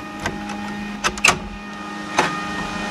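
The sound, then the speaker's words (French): A hydroelectric water turbine runs, heard with the door to its turbine room still closed, with a steady, even mechanical hum and faint constant whine, broken by a few brief clicks and knocks. No one speaks. “Ça turbine. Là, on entend turbiner.”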